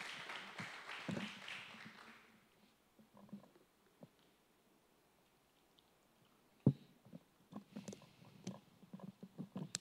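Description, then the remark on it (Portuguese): A crowd at a church worship service bursts into applause for the Lord Jesus, a dense wash of clapping that fades out after a couple of seconds, leaving scattered taps, knocks and faint movement sounds. “Você pode dar um aplauso a ele aí?”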